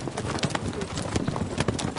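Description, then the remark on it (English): Horse hooves clip-clop steadily on a hard surface, a quick run of sharp knocking steps at moderate loudness over a constant, noisy background hiss. “The aforementioned horse.”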